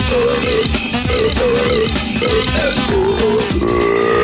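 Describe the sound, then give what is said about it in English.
A loud run of burps strung into a Christmas classic tune, billed as a singer on a Christmas album, each belch held as a note in steady rhythm over busy, jingly backing music that plays the whole time. “… burps the Christmas classics.”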